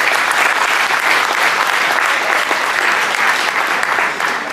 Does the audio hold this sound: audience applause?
yes